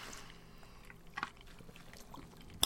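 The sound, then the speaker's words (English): A thick, syrupy drink pours quietly and slowly, a soft, faint liquid trickle punctuated by a couple of small drips or clinks near the end, with no one talking. “I'm going to go, wow, that's a little syrupy than I would think. That's pretty thick.”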